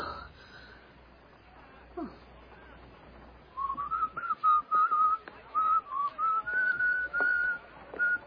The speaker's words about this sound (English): Whenever I feel afraid, I whistle a happy tune.